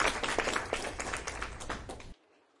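A short burst of audience applause, dense overlapping claps at steady loudness for about two seconds, then cutting off abruptly into near silence.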